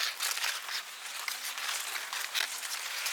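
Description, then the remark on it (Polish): The large leaves of a corn field rustle in the wind in a steady, dry, crackling hiss that swells and eases with the gusts. No voices are heard. “niedaleko tutaj mamy pole kukurydzy, które też poruszane wiatrem szeleści, ale już tak poważniej, bardziej może złowrogo.”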